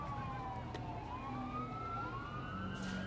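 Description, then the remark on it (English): An ambulance siren wails in slow rising and falling sweeps outside a ballpark during a baseball game, over a steady wash of crowd and outdoor noise, with no one speaking. “and ambulance making its way outside the ballpark there.”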